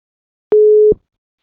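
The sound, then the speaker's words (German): A single short telephone ringing tone heard while placing an outgoing call, a steady mid-pitched beep lasting under half a second, loud and clear on a silent line, with a faint click at its start and end. “Einfach mal anklingeln, wir überraschen mal jemanden.”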